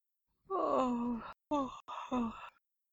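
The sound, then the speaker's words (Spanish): A voice acts out a long, tired yawn: a drawn-out breathy groan sliding down in pitch, broken into a few short gasping bursts before trailing off into silence. “Se quedó, pues, de pie, pero como estaba cansado, bostezó.”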